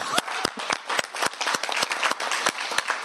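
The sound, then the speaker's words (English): A crowd applauds itself steadily, many hands clapping at once in a dense, sustained wash with sharper individual claps popping out. “So let's give ourselves a round of applause.”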